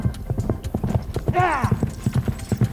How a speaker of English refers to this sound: Eight. No, that's six. There's a horse and a man on it.